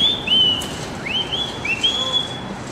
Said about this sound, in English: I bet you if I whistle, she'll come up with it.